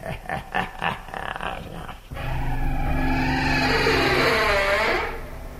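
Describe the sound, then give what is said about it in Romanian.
A door creaks open in one long, wavering groan of about three seconds, its pitch sliding and warbling, after a short run of rough, pulsing scrapes. No one speaks. “Ce mai scârție ușa asta.”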